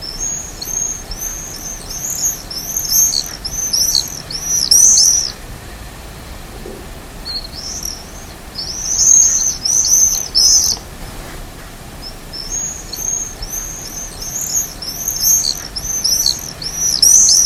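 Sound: birds calling at dusk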